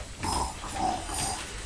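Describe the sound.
Someone imitates a pig, giving a run of three or four rough, nasal snorts and grunts in quick succession, fairly loud, with no other talking.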